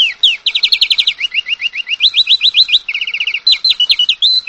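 bird, birds chirping

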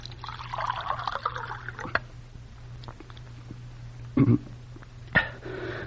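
household object, water being poured

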